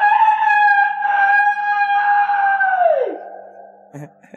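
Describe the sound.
A person loudly imitates a rooster's crow in one long, drawn-out, strained call that holds steady and then drops sharply in pitch at the end, followed by a few faint knocks.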